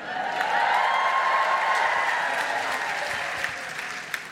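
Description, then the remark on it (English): Steady applause from a sizable audience, a dense wash of many hands clapping at once, fairly loud and sustained before thinning slightly toward the end. “Love just looking around, and a lot of happy people clapping that, but everyone not clapping it.”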